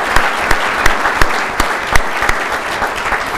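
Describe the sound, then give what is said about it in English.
An audience claps steadily, a dense wash of many hands with a few sharper, louder claps standing out at a roughly regular pace, full throughout with no talking. “Let's give them a round of applause for taking the opportunity to do that.”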